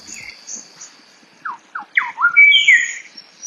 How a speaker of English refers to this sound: It's actually a grey shrike thrush. And yeah, they are a little bit whippy. It has that slide whistle quality, but it doesn't have that sharp crack